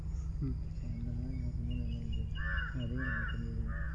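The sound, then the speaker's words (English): Crows caw repeatedly, a series of harsh, drawn-out calls coming in quick succession over a steady low droning hum. “Oh, now the crows are interested.”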